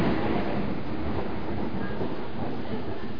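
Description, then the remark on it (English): A deep, continuous rumble of thunder rolls steadily for a few seconds, heavy in the low end and fairly loud, with no voices over it. “Do you reckon the recording picks up thunder?”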